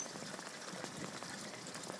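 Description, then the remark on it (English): Steady rushing rainwater pours down a drain, a continuous dense wash of noise flecked with rain pattering and small splashes, with no voices. “Give you a second to hear it, how much water's going down it.”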